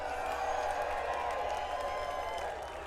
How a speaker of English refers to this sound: Hear that? They're clapping for you.